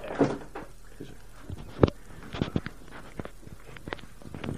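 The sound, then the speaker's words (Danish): A door is pushed shut with one sharp, solid thud, surrounded by several lighter knocks and clatters. “Ja, hvis lige har lukket døren, tror jeg, for så kan vi jo høre alt det opvask.”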